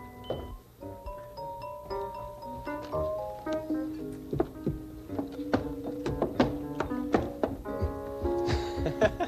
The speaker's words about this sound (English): Wait, I'll get the door. Look at the horse go up the steps.